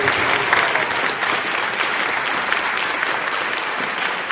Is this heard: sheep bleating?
no